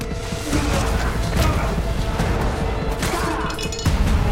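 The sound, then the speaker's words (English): A cop slams a man hard against the walls of a hallway amid a dense, loud scuffle of thuds and scraping, with a final sharp impact near the end. “The cop grabs Carter's arm and slams him against the walls.”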